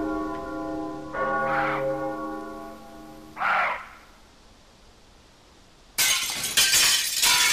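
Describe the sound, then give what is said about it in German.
Resonant bell tones ring and fade, then after a quiet pause window panes suddenly shatter, a loud, bright crash of breaking glass that keeps tinkling and cracking to the end. “Die Fensterscheiben zerbrechen!”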